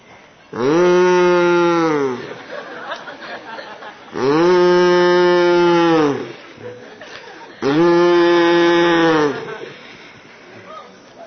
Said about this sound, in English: This cow is disturbing my meditation. It's because the cow wants somebody to milk her.